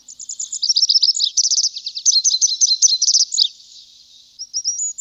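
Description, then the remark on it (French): Small birds sing in quick, high-pitched twittering phrases, rapid trills and chirps tumbling over one another, clear with no voices, briefly easing off before resuming. “Alors, prenons un peu d'altitude et voyageons avec nos frères, les petits oiseaux.”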